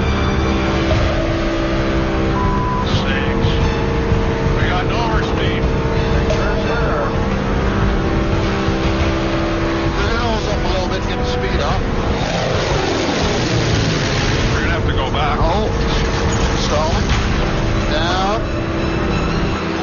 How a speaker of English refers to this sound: Engine has gone into overspeed. The pilots have lost control of it.